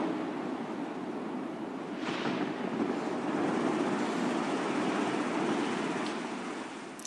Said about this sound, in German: Eine mächtige Welle zieht sie ins eiskalte Wasser.